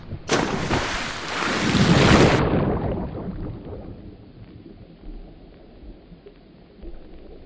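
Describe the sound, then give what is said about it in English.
A loud splash as someone jumps into water, a burst of roaring spray lasting about two seconds, then a low churning, bubbly rumble that gradually settles. “Higher Ideas Podcast Season 2 starts not with a bang, but with a splash!”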